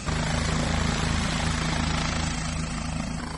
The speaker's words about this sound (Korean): 자, 이제 헬리콥터가 이륙하기 위해서 준비를 하고 있습니다. 사람들은 사진기를 들고 헬리콥터 주변에 모여 있는데요. 경찰 헬리콥터이기 때문에 더 기대감을 가지고 헬리콥터의 이륙 모습을 지켜보고 있습니다. 자, 이제 헬리콥터가 드디어 이륙을 하나요?